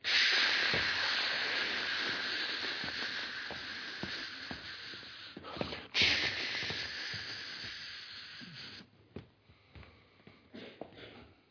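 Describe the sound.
A voice imitates a spray paint can being used by police at a crime scene, with a long, steady hiss lasting several seconds. It is broken once by a brief pause, then fades into quiet breaths and small mouth clicks.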